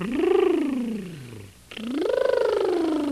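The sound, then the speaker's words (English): Two loud, buzzy tongue raspberries (Bronx cheers) made while using the voice, separated by a brief pause, each with a rattling flutter and a voiced pitch that rises and then sinks. No talking accompanies them. “Or you can buzz your tongue as in a Bronx cheer.”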